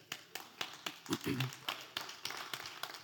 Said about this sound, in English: Now, 12 of you are clapping. I'm wondering if the rest of you are not clapping because that might have implications for you that is a bit daunting.